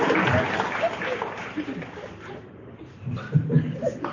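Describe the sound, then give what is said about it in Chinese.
An audience claps steadily for about two seconds, the applause thinning out and fading, followed by scattered chuckles and murmured voices in the room. “还要鼓掌，听不懂还要鼓掌。”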